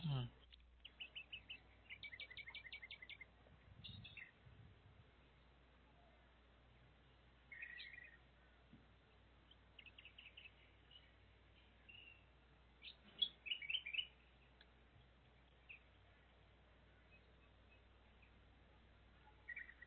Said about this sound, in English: Okay, so the beautiful birds in the background, it's kind of exciting.